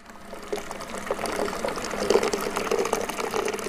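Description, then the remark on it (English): A worker pours water steadily into a vessel to prepare it for making beer at the Black Horse Brewery in the Magaliesberg Mountains. The continuous splashing fill rises slightly in pitch as it goes and is moderately loud, with no voices. “A worker prepares water to be used to make beer at the Black Horse Brewery in the Magaliesberg Mountains.”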